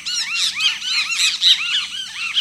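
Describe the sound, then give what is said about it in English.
A great kiskadee calls in a steady stream of loud, high, arching whistled notes that repeat rapidly and overlap one another, with no voices present. “You'd probably also hear the whistled notes of a great kiskadee.”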